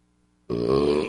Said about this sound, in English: Oh, thank you, Jesus. Did Jesus send that burp? For those of you that listen to the show and are religious, Jesus is my co-pilot on these burps right now.